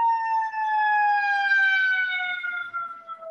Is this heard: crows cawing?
no